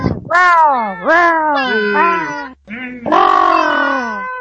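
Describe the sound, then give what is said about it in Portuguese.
A cat meows loudly, several drawn-out, wavering cries in quick succession with a brief pause before a final long meow. “Um gato!”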